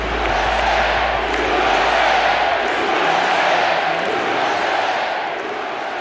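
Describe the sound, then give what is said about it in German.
A large crowd cheers and shouts continuously at the US presidential inauguration event as Trump signs his first executive orders on stage, a dense roar of many voices with occasional whoops rising out of it, loud and sustained throughout. “Die einen jubeln, die anderen sind voll Angst und Zorn.”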